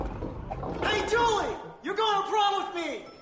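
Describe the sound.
A person imitates a tiger roar with two loud, drawn-out growling bursts separated by a short pause.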